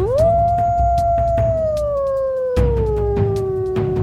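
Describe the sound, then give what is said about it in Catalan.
A single long howl swells up quickly, then holds and slowly slides downward in pitch over about four seconds, over a steady low rumble with scattered clicks. “En acostar-se a l'avet, en Glooskap va udelar tres vegades.”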